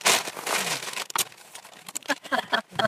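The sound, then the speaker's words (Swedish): Crisp rustling of the paper sheets of a contract being handled and flipped through, a dense crinkling burst at first, then scattered shorter shuffles and crackles. “Jag ska bara se kontraktet jag hade ifrån”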